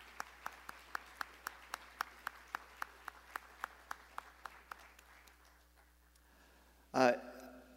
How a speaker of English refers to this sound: Can we have just a round of applause for her gift and her talent for being with us?